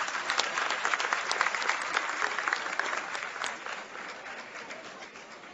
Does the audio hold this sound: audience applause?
yes